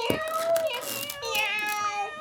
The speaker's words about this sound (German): Sie öffnen die Tür zum Wohnzimmer und... Überraschung! Ja, wen habt ihr denn da mitgebracht? Eine ganze Katzenfamilie? Ich stelle den Korb vor das Sofa.